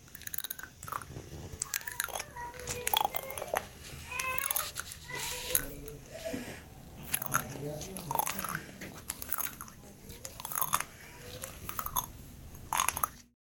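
Sticky cast tape being unrolled by a doctor over a broken arm, giving off a steady stream of loud, irregular popping crackles and ripping snaps that continue for the whole stretch.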